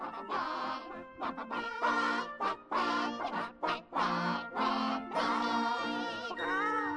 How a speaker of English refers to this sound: El pollo Navidad. Yeah, these would be chickens.